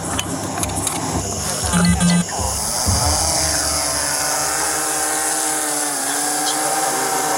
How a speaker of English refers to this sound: So I'm gonna try to put the drone up.